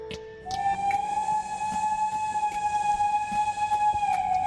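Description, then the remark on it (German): A locomotive whistle sounds one long, steady, piercing tone lasting several seconds, with faint rumbling and clanking in the background, at a large rail yard with countless branching tracks holding steam, diesel and electric locomotives, freight wagons and old passenger coaches. “Auf einem weiten Gelände, auf unzähligen, sich immer weiter verzweigenden Gleisen stehen Dampf-, Diesel- und Elektroloks.”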